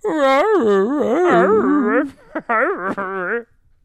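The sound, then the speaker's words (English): A voice imitates a dog whimpering and yipping, with loud, wavering whiny cries for about two seconds, then a brief pause and a second burst of high, quavering whines. “And my gay dog is emaciated and anemic at this point.”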